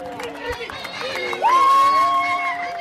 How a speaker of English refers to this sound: This traditional style of wrestling comes from the Nuba Mountains in the southern part of the country, but the sport has become popular across Sudan. People crowd around the winners, cheering them on and throwing money at them.